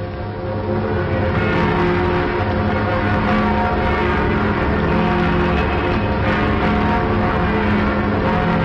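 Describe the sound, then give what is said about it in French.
A dense, continuous wash of church bells pealing from many bell towers at once, overlapping, steady and loud throughout with no pauses. “Et les cloches de tous les clochers s'ébranlent pour un nouveau Noël.”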